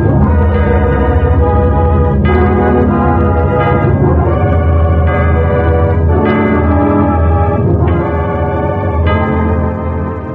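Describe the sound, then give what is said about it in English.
Large bells peal loudly and continuously, with fresh strikes every couple of seconds ringing over a dense, lingering hum of overlapping tones. No voices are heard. “One man had stirred the nation to declare its independence, but the Liberty Bell was scarcely stilled”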